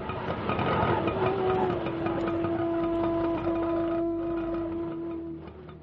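A small auto rickshaw engine rumbles loudly as it drives off, its droning pitch shifting as it revs, then settles into a steady buzzing hum that fades slightly at the end.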